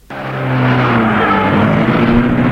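A white sports car's engine fires up abruptly and roars loudly, its pitch climbing slightly as it accelerates in a steady growl with no voices.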